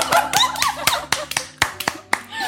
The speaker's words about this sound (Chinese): 听懂的，听懂的，掌声。